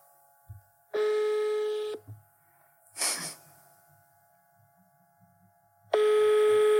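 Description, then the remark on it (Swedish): A phone line's ringing tone from an outgoing call sounds in a steady, buzzy burst lasting about a second, then a short noisy rustle, then the ring tone starts again after a pause. No one speaks. “Ja, så nu ska vi ringa upp henne och säga till henne att it was a prank.”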